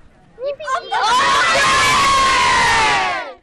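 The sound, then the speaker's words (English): A group of children lets out a loud, sustained cheer for Clare, high excited voices rising together into a roar for a few seconds after a short initial shout, then cutting off. “Will you give one cheer for Claire?”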